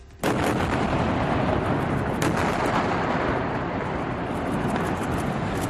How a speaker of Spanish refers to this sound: El momento de la explosión, del posterior derrumbe de ese edificio.